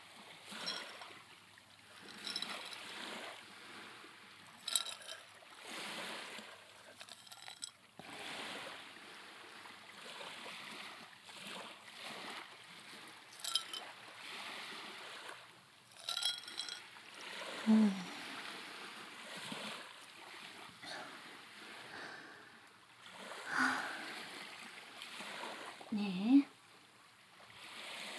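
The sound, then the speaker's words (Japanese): Steady wash of waves on a sandy beach, rising and falling in soft surges with occasional louder swells, a continuous hiss filling the background at moderate loudness. “砂浜の駅というからてっきり海で泳ぎたいのだと思ったのだけれど、なのにこうして浜辺でのんびり過ごすのをご希望とは。”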